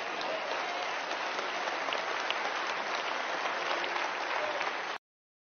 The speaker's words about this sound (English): I'm so glad. I'm so encouraged to hear those applause, that applause. I'm so happy, right?